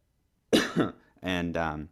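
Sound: cough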